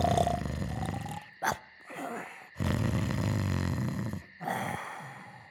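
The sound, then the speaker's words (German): Pigs snore softly in a series of low, rumbling, drawn-out snorts with short pauses between them, with no one talking. “Nur die Schweine blieben gelassen und schnarchten leise vor sich hin.”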